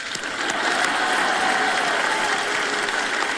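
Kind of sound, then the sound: crowd, audience clapping hands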